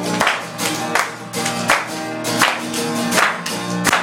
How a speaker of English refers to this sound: Let's give him a clap off. Let's give him a clap off. Come on, church.